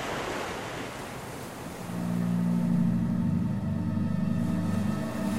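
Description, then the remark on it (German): Ocean waves wash and break in a steady, hissing roar, with a low droning hum swelling in underneath after a couple of seconds and continuing to the end. “Ich schaue so gerne in die Wellen.”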